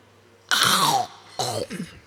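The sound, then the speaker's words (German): Two loud, crisp crunches of someone biting into an apple on the radio, the first longer and the second shorter with a brief chewing crackle after it, and no talking. “Deswegen habe ich Ihnen auch diesen Apfel mitgebracht.”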